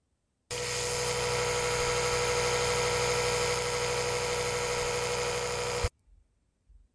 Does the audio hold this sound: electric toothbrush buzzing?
yes